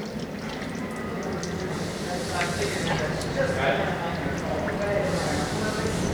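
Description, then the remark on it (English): A toilet flushes and refills, with a steady rush of running water that swells slightly midway and keeps going without a break. “Oh, I think I got a flush now.”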